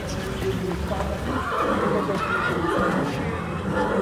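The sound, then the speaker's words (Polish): A purebred Arabian stallion whinnies loudly in a show ring during judging, amid steady background noise, with hooves clip-clopping and faint voices murmuring in a busy outdoor arena setting. “Akurat widzimy najpiękniejsze konie świata i taka jest prawda. Konie czystej krwi arabskiej, które przyczyniły się w znacznej mierze do powstania tych naszych tak zwanych małopolskich koni, półkrwi anglo-arabów.”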